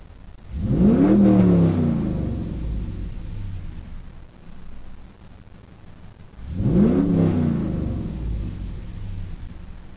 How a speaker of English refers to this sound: This is what my car sounds like inside the car with the windows shut.